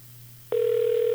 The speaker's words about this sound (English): Well, we got to dial it first. So let's do that. We'll dial it here off the air. Okay. I believe there we go. Oh, it's ringing. This should be good. Calling Geraldo Rivera.